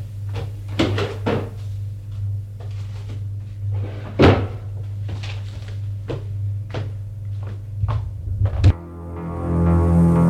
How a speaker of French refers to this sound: Et va ranger la lettre dans le tiroir du bureau.